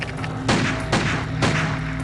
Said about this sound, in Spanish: Escuché pam, pam. Pero no sonaba como una escopeta de caza. Es un sonido totalmente distinto, muy fácil de distinguir. A Pete Prowell los disparos le parecen de pistola.